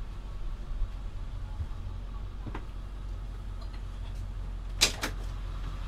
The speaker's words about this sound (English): Let me open the door up.